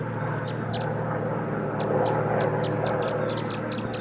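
Wild birds, mostly at some distance, chittering in quick, high-pitched bursts, scattered in irregular clusters across a steady low rumbling hum, during a bird recording session. The chirps are fairly faint and no one speaks.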